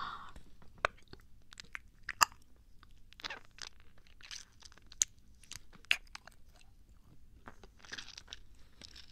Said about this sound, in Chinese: 宵夜来了，那么急着送上口啊？那我先咬一口。